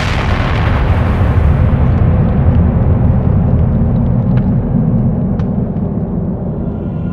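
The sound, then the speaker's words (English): A massive explosion roars out loud, its initial blast giving way to a heavy, sustained low rumble that churns on for several seconds without any voices, caused by hundreds of fireballs converging at the same moment into a single point. “The bulk of hundreds of fireballs converged at the same moment into a single point, causing a massive explosion.”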